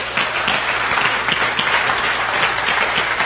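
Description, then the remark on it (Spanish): A crowd applauds loudly for a support team of business executives being introduced, with dense, overlapping clapping that stays steady and even for the full few seconds. No one speaks over it. “para que yo pido un fuertísimo aplauso.”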